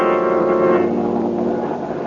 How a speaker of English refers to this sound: As we return to our story, Boston Blackie and his friend Mary are in an airplane high over the track from which the train disappeared.